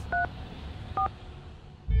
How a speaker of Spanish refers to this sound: Yo mismo cogí el teléfono y le marqué.